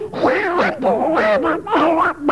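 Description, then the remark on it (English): A voice imitates Donald Duck impersonating a man impersonating Donald Duck, reciting 'Simple Simon met a pieman going to the fair' in a continuous stream of raspy, garbled quacking speech, fairly loud, with brief pauses between phrases, into a BBC microphone. “This is Donald Duck impersonating ….”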